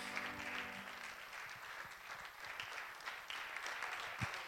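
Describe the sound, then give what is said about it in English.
A crowd breaks into steady applause for the speaker's mother, a dense wash of many hands clapping at an even level throughout, with a few brief louder claps and faint vocal sounds mixed in. “So why don't you applaud her, because she is my mother and because I love her.”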